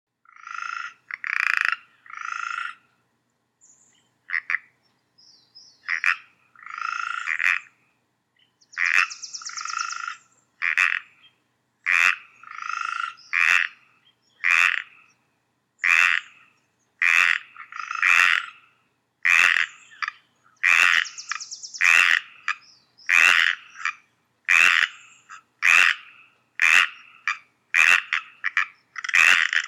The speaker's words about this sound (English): Anyway, if you have the stereo option, it's best to listen to it on twin speakers. So here we go. This is 46 seconds, and this is the one called Pacific Chorus Frogs.